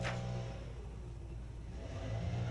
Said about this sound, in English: You hear that? It's a guy with a big, giant, gas-powered leaf blower. Oh, yeah. It's sounds like a chainsaw.